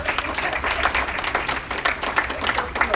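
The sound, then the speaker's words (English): A church audience claps for Jesus during a sermon, a steady, dense run of overlapping hand claps at a lively, even level throughout, with a hint of voices mixed into the applause. “Oh, you can clap for Jesus.”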